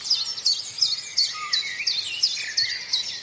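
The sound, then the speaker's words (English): A chiffchaff repeats sharp, high notes in a steady rhythm about twice a second, while a blackbird and a wren sing lower, fuller phrases beneath it, with no talking. “Chiff-chaff, blackbird and wren going.”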